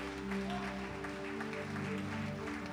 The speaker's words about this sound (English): Let everybody clap for Jesus Christ right now.